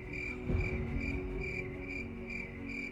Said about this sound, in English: No, crickets.